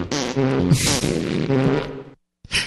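fart sound effects

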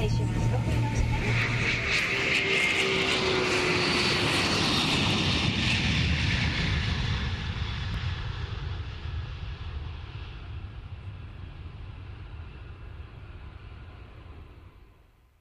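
airplane engine

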